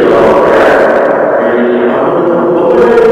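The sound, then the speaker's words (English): A caller's voicemail voice drenched in a heavy echo effect, loud and continuous for about three seconds, its repeats smearing together into a dense wash where no words come through clearly. “and I noticed that when you played my voicemail, you didn't give me my echo.”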